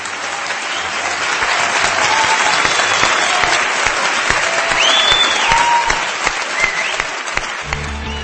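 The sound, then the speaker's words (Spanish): Sustained applause from a radio show's live audience in Gijón, Spain: a dense steady wash of clapping at even loudness for about eight seconds, with a few faint whistles or cheers rising above it. “Lo dicho, estamos en Gijón, escuchamos a nuestros oyentes que desde aquí os saludan a todos los que nos escucháis a través de la radio, que os saludan antes de nuestro sumario con este aplauso.”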